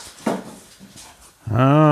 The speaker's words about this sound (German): Falls ihr irgendwelche Störgeräusche gehört, das sind die Katzen. Die mögen das heute, das hier Podcast in der Küche.